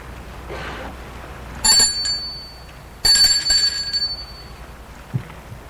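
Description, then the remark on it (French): A doorbell rings twice as a man rings at his parents' door, each a bright, high metallic chime that lingers briefly before fading, with a short pause between rings over a faint low background hum. “Et une demi-heure plus tard, Gilbert va sonner à la porte de ses parents.”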